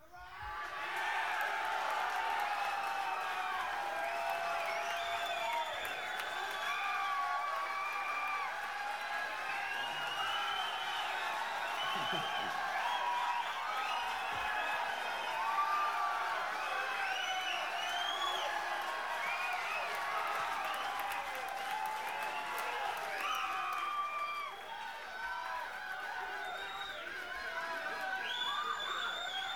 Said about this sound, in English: By the way, if you want to clap a little louder, you may get a chance to hear yourselves back, because this is going out on King Biscuit.